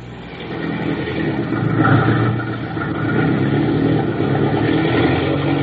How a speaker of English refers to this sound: Hey, what you trying to do, blasting that engine? And do you know you're applying full left rudder?